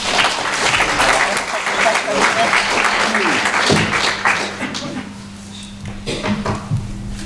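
An audience applauds a guest as he is introduced, in a dense, steady burst that stays loud for several seconds, then thins out and tapers toward the end, with a low hum underneath.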